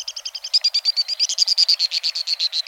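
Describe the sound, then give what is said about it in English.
White-throated swift (Aeronautes saxatalis) calls from birds flying at tremendous speed across a canyon: a shrill, rapid run of high chattering notes, about seven per second, held steady for a few seconds with no voices. “Flying at tremendous speed, the white-throated swift is indeed swift, among the fastest of all birds.”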